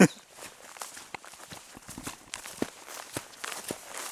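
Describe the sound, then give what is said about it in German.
Footsteps of several hikers crunch steadily along a forest path, their steps overlapping in an irregular rhythm, moderately quiet, with no talking. “Außer leisem Vogelgezwitscher hören die Wanderer nur ihre Schritte und den eigenen Atem.”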